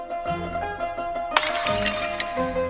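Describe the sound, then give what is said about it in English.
The young Sing smashes open a piggy bank with a sudden bright shattering crash, scattering ringing bits that keep jingling, with music playing underneath throughout. “The young Sing smashes open a piggy bank.”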